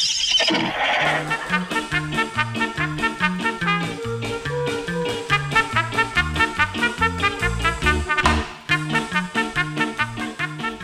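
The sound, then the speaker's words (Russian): A horse whinnies at the start, then a rapid, steady drumming of hooves gallops on for several seconds, loud, as riders gallop at full speed along garden paths, with no one talking. “Всадники пустились скакать во всю прыть по дорожкам сада.”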